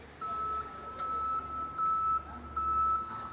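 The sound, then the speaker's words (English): A forklift's reversing alarm beeps steadily in a repeating on-off pattern over a low engine rumble and the broad hum of a large working 31-degree warehouse behind a fish auction room, as forklifts wheel pallets of iced-down fish onto trucks. “Forklifts wheel pallets of iced-down fish onto trucks bound for dealers in Gloucester, Boston, and beyond.”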